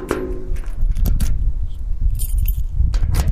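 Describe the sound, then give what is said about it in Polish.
Jingling of keys and sharp metallic clicks as a key is turned in a door lock to open the door of a tower, several bright rattles over a steady, gusty wind rumble. “Mamy klucz, przekręcamy.”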